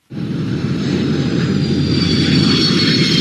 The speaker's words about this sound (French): 16h15, le train d'atterrissage de l'Airbus siglé Eurowings frappe l'asphalte de la piste de l'aéroport d'Abidjan. Explosion de joie.